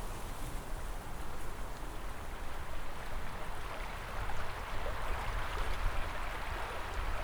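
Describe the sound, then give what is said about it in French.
An icy river in the snowy mountains flows steadily under snowdrifts as snow falls, its constant rushing, gurgling wash filling the whole scene at an even level, with no voices or other sounds breaking through. “La rivière continue courageusement à se frayer un chemin sous les congères.”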